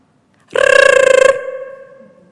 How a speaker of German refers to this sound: Nicht, weil ich den Wecker klingeln lasse, aber vielleicht ist der eine oder andere ja schon immer mal wieder da